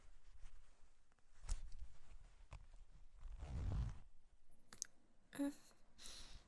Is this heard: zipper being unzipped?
yes